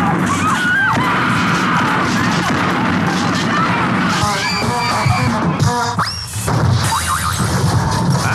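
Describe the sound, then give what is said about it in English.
Store shelves crash down and glass shatters as cans and booze go flying, in a loud, continuous jumble of clattering and bangs, with shouts and yells mixed into the chaos. “Stuff is all over the broken glass.”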